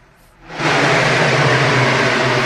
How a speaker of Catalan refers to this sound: em sembla que amb el pas de les motos tenia dificultats per escoltar-nos.